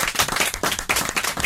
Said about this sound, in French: Applaudissements.